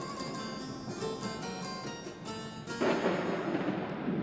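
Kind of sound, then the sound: nature, violent thunderstorm with thunder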